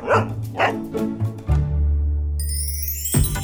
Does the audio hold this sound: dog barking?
yes